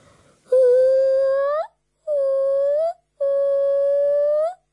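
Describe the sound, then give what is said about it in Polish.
A person imitates a gibbon call with three sustained, wavering hoots, each rising slightly in pitch at the end, separated by brief pauses. The voice is loud and tonal with no other speech. “I zauważyłam je gdzieś w koronach drzew, bo po prostu usłyszałam je i spojrzałam tam, gdzie je usłyszałam. I one robią tak.”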